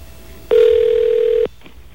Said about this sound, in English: Those people that don't like me dialing on the air are welcome to come down and answer the phone or make calls themselves.